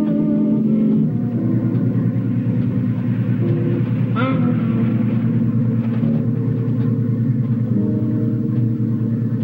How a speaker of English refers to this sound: Thrust forward by its powerful engine, the boat slices through the water.